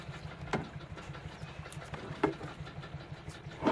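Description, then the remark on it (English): A patrol boat engine idles with a steady, low throbbing rumble, broken by a few sharp knocks or splashes. No one speaks. “Patrol boats.”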